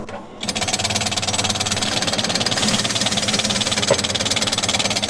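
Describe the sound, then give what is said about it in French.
A felt hat head-stretching machine (dégageuse de tête), which spreads the pointed crowns of felt hat bodies after fulling, starts up after a brief pause and runs steadily, giving a loud, dense mechanical clatter with a fast, even rhythmic pulse and a bright hiss on top. No one speaks. “Donc la machine qu'on appelle la dégageuse de tête va permettre d'écarter la tête.”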